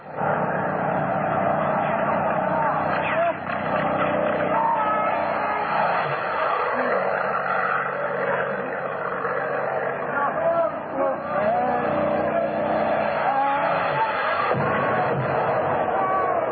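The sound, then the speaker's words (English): Two attacking airplanes roar overhead, attacking a truck, in a loud, unbroken engine drone lasting the whole stretch, with frantic shouting voices mixed into the din. “Look, the plane! There's two of them!”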